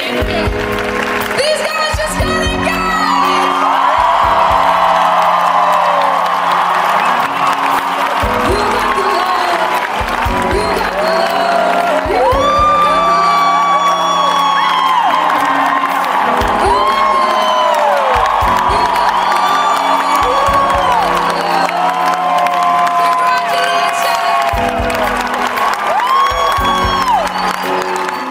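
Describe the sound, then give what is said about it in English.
A large crowd cheers loudly and continuously for a marriage proposal on stage, with high whoops and shouts rising above a dense roar and bursts of clapping underneath. “To stand on stage and to be so in love with someone and to have people cheer for that, just cheering for love, really warmed my heart.”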